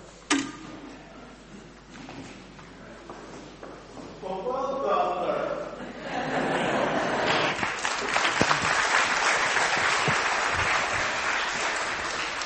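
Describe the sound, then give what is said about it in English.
An audience at an 11 o'clock church service breaks into prompted applause after a scripture reading, starting hesitantly, then swelling into steady, sustained clapping from many hands after a brief murmur of voices. “You had to be prompted at the 11 o'clock. But well done, sterling effort.”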